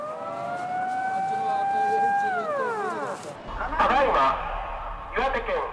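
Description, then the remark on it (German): A civil defense siren sounding across Japan at 14:46 in memory of the Fukushima victims holds a long, loud steady wail, then slides down in pitch and fades, after which voices can be heard talking. “Um genau 14.46 Uhr heulten in ganz Japan die Sirenen zum Gedenken an die Opfer von Fukushima.”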